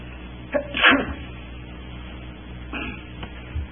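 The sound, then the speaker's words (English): A sharp sneeze bursts out near the start, followed a couple of seconds later by a softer second sneeze against a quiet background, with no talking. “And if I can stop sneezing, we'll be ready to go.”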